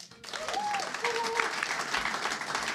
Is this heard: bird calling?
no